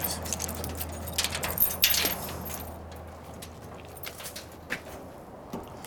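Keys jangle and clink in a busy burst during the first two seconds, then settle into a few quieter metallic rattles and taps spread across the rest, as someone looks for keys at a family tomb in the cemetery of Pereje.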